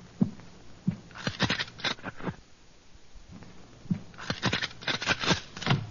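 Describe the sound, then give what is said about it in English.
A sheet of paper is slid under an apartment door, making dry scraping and rustling in two short bursts separated by a brief quiet pause. “You better slip it under the door.”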